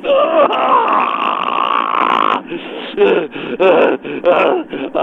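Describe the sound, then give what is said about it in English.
A man groans with strain: one long, tight, voiced groan lasting over two seconds, then several shorter grunting bursts in a choppy rhythm, loud throughout. “It was a sound of exertion.”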